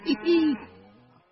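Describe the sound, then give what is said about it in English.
A short moo-like call: a brief opening note, then a longer sustained, slightly falling tone that fades out. It sounds like a human voice imitating cows mooing. “All the animals gathered around the barn to snoop, but none of them could understand moo.”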